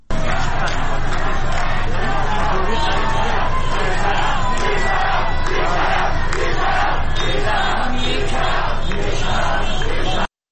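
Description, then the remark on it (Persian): A large crowd of protesters chants slogans in unison in the Saadat Abad neighbourhood of Tehran on a Wednesday evening, with car horns sounding; a loud, dense roar of many voices that holds steady for about ten seconds with rhythmic surges of shouting. “در تهران در محله سعادت آباد معترضان گرد هم آمده و اعتراض خود را با سر دادن شعار و به صدا درآوردن بوق خودروها نشان می‌دهند.”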